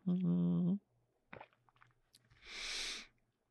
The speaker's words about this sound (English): Well, I'm going to get a sip of water here.